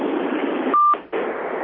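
A single short electronic phone tone, steady and clear, from a phone going off during a meeting, cuts briefly through a steady wash of hiss-like noise, followed by a moment of near silence before the hiss returns. No one speaks.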